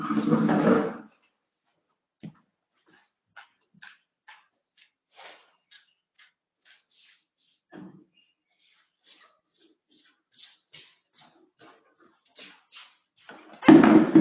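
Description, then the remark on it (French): A chair that is breaking being moved and swapped for another: a heavy scraping thump, then a scatter of small knocks, creaks and taps, ending in another loud bump of furniture. “Je vais changer de chaise, parce que cette chaise est en train de se casser la tête.”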